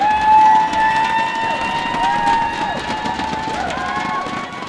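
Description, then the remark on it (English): A dense crowd of shoppers surges into IKEA's new store in Oak Creek on a Wednesday morning as the doors open after hundreds lined up for hours: a loud, steady roar of overlapping voices with cheers and high whoops rising above the din throughout. “Here's what it sounded like when shoppers were let in.”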